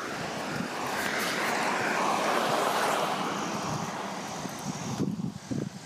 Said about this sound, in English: Here comes another car, silver truck.